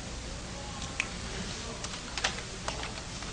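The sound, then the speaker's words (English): Quiet, scattered keystrokes tap out on a computer keyboard in an irregular rhythm, a few sharp clicks at a time over a steady background hiss, with no one speaking. “Just use the keyboard.”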